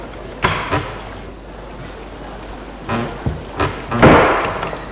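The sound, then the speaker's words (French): A small glass door into the entrance hallway of a five-storey late-1950s apartment building opens and swings shut, giving a few sharp knocks and rattling thuds over a steady background hiss, with the loudest bang and a brief rattle near the end. “par une petite porte vitrée.”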